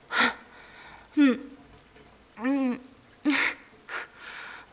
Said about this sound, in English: The hot water falling on us feels good too.